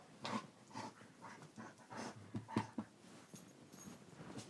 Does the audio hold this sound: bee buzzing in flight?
no